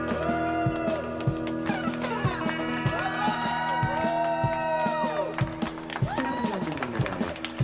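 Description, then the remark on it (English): A large crowd cheers and whoops with heavy echo, rising and falling voices blending over steady rhythmic clapping or stomping that fills a big reverberant space throughout. “Crowd noise. So you can call. Lots of echo.”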